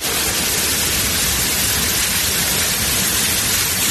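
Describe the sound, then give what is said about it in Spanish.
A steady, loud rush of flowing water churning inside the AquaDom, the world's largest cylindrical aquarium, continuous and even throughout with a dense hiss and no voices. “Claro, tú oyes esto y dices, pero bueno, está claro que tiene que ver con algo acuático, con agua, pero es que lo que escuchas es el Aquadón, es el acuario cilíndrico más grande del mundo, uno de los 8 acuarios más importantes de todo el planeta”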